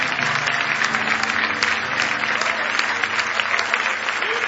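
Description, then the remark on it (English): An audience claps their hands in praise, steady dense applause with many hands clapping at once in a loud, continuous wash that holds evenly throughout, with faint murmurs of voices underneath. “Oh, if you love him, give him a big hand clap of praise.”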